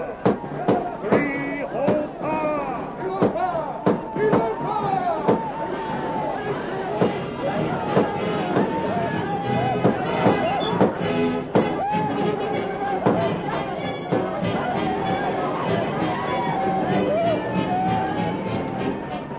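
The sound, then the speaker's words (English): Rapid, irregular gunshots from outlaws raiding a village crack sharply over a loud, agitated crowd of shouting and yelling voices as the villagers spill from their tents. The uproar continues steadily throughout. “The outlaws thundered down upon the village, their guns blazing.”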